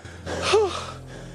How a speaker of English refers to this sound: The lads lie side by side, breathing heavily.